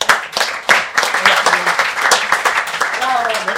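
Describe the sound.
Steady applause from an audience for the man who conceived the programme, a dense crackle of many hands clapping at a fairly loud level, with voices calling out and talking over it toward the end.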